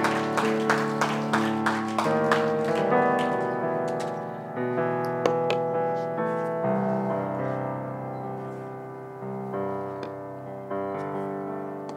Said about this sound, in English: Let's put our let's give him a clap offering. Amen. Praise the Lord.